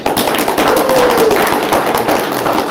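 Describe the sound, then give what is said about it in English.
An audience applauds steadily for guest Josh Blaylock on the Talking Joe show. Many hands clap at once in a dense, crackling wash that stays loud and even from start to finish, with no talking over it. “But your applause should be for our guest, Josh Blaylock.”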